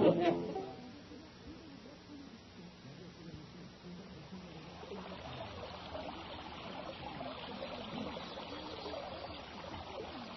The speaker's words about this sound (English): On the Osho River.